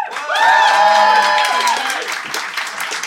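The festive Christmas Phoenix Flat Slam live audience breaks into loud applause with whoops and cheers to vote on who is in the right, dense clapping, harmonic shouts rising over it early before the cheering settles into steady clapping.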